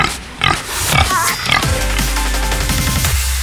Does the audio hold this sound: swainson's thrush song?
no